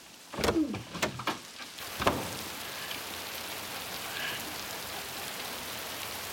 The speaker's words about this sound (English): You gotta admit, though, cabin in the woods, rainy night, kind of romantic.